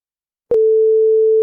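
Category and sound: signal or alarm, answering machine beep tone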